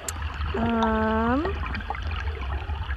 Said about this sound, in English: Some of them are hydrophone recordings inside the water, where I take myself and my team, we take hydrophones and record inside the water. So you're hearing the BC Northwest Coastal Mountains.